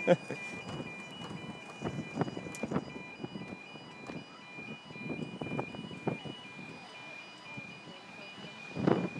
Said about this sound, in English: A level crossing with an alarm as well.